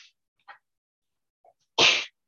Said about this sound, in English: Bless you.